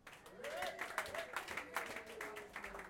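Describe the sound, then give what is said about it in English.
An audience at a Club Delph live band show claps steadily and densely throughout, applauding the band and staff, while a voice rises and falls underneath, half-buried by the clapping. “We're clapping for everybody.”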